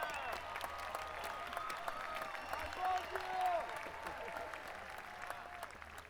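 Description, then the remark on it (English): A music festival audience claps steadily and enthusiastically for a band, dense applause at a fairly loud, sustained level, with scattered cheers and whoops rising above the clapping. “You think Ted Cruz gets that kind of applause, man?”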